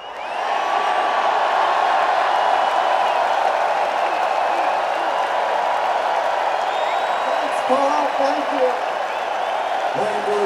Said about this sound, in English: I want you guys to just do a big cheer for Paul